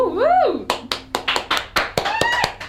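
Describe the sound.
A single voice lets out a high, rising-and-falling whooping cheer, followed by a run of steady, sharp hand claps that keep going to the end.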